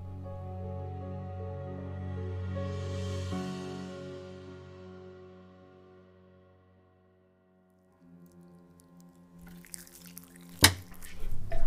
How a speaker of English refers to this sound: Your precious water is draining away.